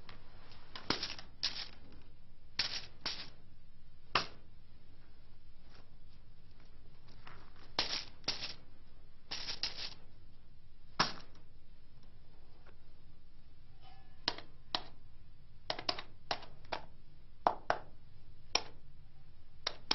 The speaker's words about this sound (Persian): عجب صدای دلانگیزی دارد این سکه ها.